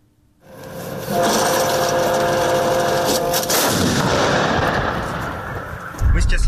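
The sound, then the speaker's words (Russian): A Ukrainian Armed Forces 'Pion' self-propelled artillery gun, firing 203 mm shells at enemy positions, fires with a heavy boom that swells into a long, loud roaring rumble lasting several seconds, with a fresh low thump near the end. “как армия Украины бьет по противнику из САУ «Пион».”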